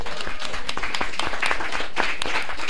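A crowd at a panel event applauds steadily, many hands clapping at once in a dense, crackling wash of sound that holds an even level throughout, with no voices standing out.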